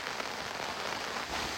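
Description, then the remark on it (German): Steady rain patters down in a dense, even hiss of countless drops striking a surface, continuous for the whole moment, with no voices, falling during carp fishing. “Ich werd bekloppt im Regen!”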